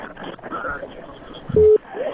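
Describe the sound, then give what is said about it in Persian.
A single short, loud telephone busy-tone beep sounds as a caller's line to a Radio Azadi call-in show drops, steady and flat in pitch, set against a muffled background of line noise and faint voices. “تلفن قطع شو.”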